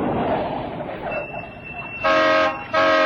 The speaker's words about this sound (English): A car's coming. Stand back in this doorway. Did you manage to see inside? No. It's going to the yacht.